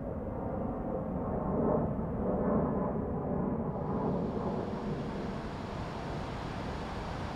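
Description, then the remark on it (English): Oil pumping through pipes of a power plant near the entrance of a park in Chelsea, near Logan Airport, on a sunny winter afternoon, makes a steady, dense industrial rumble, a loud continuous low drone with a rushing, churning texture that never lets up, with no voices. “That's oil pumping through pipes of a power plant right near the entrance of the park.”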